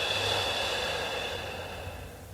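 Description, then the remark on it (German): A long, slow exhale of a deep breath in a guided breathing exercise flows out as a steady, airy rush of breath, fairly soft, fading gently over a couple of seconds with no talking. “Und wieder aus.”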